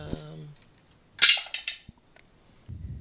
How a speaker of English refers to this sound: Okay, I knock three times firmly on the door, kind of trying to make it sound authoritative.